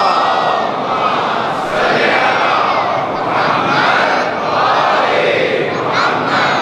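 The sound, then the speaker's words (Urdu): A large audience at a majlis recites salawat, "Muhammad wa aal-e-Muhammad," in unison. The many voices form a loud, dense wash, rising and falling together in rhythmic waves without pause. “اسی لیے کہا ممبر رسول ہے. صلوات پڑھیے محمد والے محمد”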